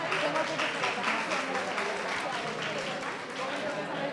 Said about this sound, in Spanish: La gente aplaude y no.